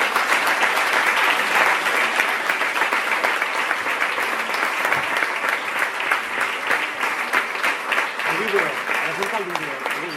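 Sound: audience applause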